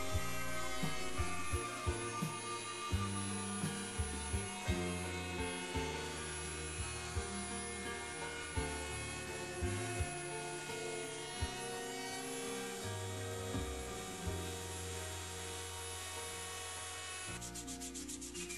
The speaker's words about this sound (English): If the plan allows, you can use a router to round off the inside pattern.